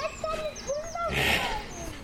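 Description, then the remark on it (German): Ducks quack loudly in a rapid series of short, nasal calls that rise and fall in pitch, with a brief harsh burst midway through and no talking. “Müsst ihr so laut quaken? Quakt woanders.”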